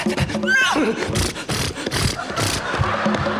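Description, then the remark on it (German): A person imitates the whinny of a coachman's horses as they hurry, a short, wavering high cry near the start, set against a busy background of crowd noise and clatter. “Und der Kutscher beeilt sich! Und die Pferde beeilen sich.”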